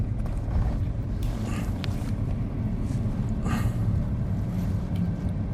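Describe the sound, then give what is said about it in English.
Kaya, a big dog in the back that has been given a microphone, pants heavily right into the microphone, producing a steady low rumble broken by a few harsh, breathy gusts, with no voices. “You can hear the panting.”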